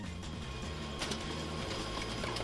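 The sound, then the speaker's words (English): An office printer runs steadily, its mechanism whirring and humming with a low repetitive drone and a brief clatter near the end. No one speaks. “The printer seems to be working well”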